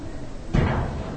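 A room door swings shut with a single solid thud, a low-heavy impact followed by a brief fading resonance, moderately loud against a quiet background.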